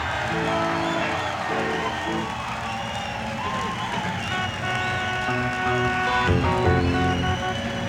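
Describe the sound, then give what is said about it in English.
A large concert crowd at the Agora cheers and applauds loudly and continuously as a band is welcomed onstage, a dense roar of clapping and shouting voices that swells slightly near the end. “WMMS and the Agora want you to give a big welcome to …”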